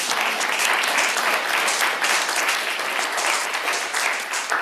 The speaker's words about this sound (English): And so if you enjoyed last week's service, applaud. If you love First Baptist Church of Penfield, applaud.